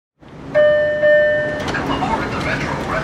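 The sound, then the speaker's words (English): Subway station ambience at Union Station in Los Angeles with a Red Line train: a steady, echoing rumble, a bright sustained tonal chime or horn for about a second, then continuing clatter and crowd murmur of commuters. “The morning rush may have slowed to a trickle, but two police officers are still surveying the commuters on the escalator down to the Red Line train.”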